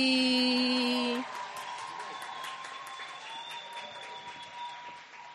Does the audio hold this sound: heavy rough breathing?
no